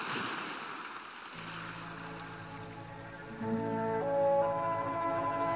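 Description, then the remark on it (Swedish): Ocean waves lap steadily, joined after a moment by a low humming drone that swells slightly toward the end, with no voices. “Förväntansfull ser han hur flaskorna guppar iväg på vågorna.”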